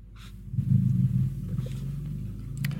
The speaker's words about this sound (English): Is that a motorbike near you? No, it's a motorbike near you.